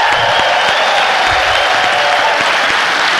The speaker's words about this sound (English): We got to give a big send up to our webcast. Give a cheer to the web folks joining us on the web.